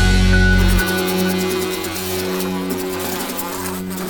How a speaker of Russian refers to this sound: Ой, что ж делать-то с вами, несчастные мухи? Сколько вас приклеилось к этой липучке?